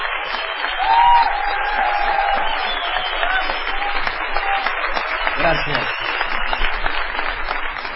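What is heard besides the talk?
audience ovation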